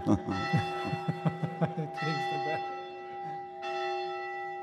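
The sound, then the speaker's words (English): A church bell rings loudly, with a rapid run of strikes early on and then a couple of slower peals whose bright tones hang and shimmer between hits. “Thank you, bell. The bell.”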